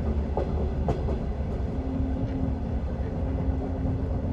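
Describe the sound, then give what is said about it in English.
A train slows down, rumbling heavily along the rails, loud, with a few brief metallic squeals early on and a low steady drone settling in partway through. “He could feel the train slowing beneath their feet.”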